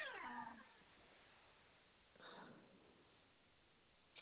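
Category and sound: animal, small dog whimpering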